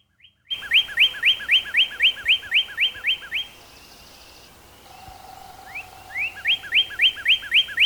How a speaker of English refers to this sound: that same adrenaline rush is also experienced by female cardinals when they hear the male singing